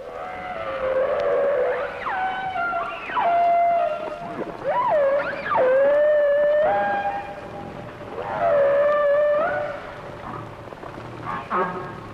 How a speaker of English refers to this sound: And unlike this song of the humpbacked whale, human melodies are characterized by musical scales.